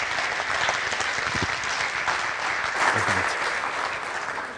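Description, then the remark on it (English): A church audience applauds steadily for several seconds for the women involved in Connect, a dense, even wash of many hands clapping at once, with a faint murmur of voices underneath. “And give them a clap.”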